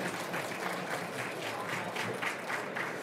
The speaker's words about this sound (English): So let's just give a round of applause to these three people who are brave enough to come up here and do this.